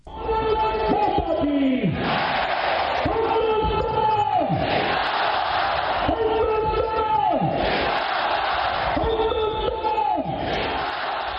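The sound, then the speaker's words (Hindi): A large crowd at the Republic Day retreat ceremony at the Attari check post in Amritsar, India, loudly chants the slogans "Bharat Mata ki Jai", "Hindustan Zindabad" and "Vande Mataram" in steady, repeating waves, each phrase rising and falling every couple of seconds, with a constant roar of voices underneath. “गणतंत्र दिवस के अवसर पर अमृतसर में अटारी चेक पोस्ट पर विश्व प्रसिद्ध रिट्रीट सेरेमनी के दौरान भारत माता की जय, हिंदुस्तान जिंदाबाद और वंदे मातरम के नारे गूंजे।”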